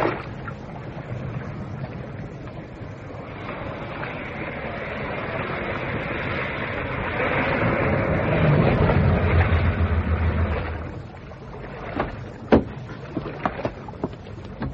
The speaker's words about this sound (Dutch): Daar komt een auto, sir.